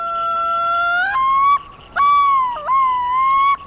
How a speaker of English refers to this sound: You hear the yodeling of yellow-billed loons and tremolo calls of the loons on the nearby icy lake.